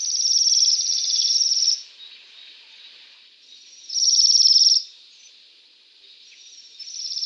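A flock of waxwings calls overhead in high, thin, buzzy trills that swell in loud bursts and fade to a softer continuous twittering, with no voices present.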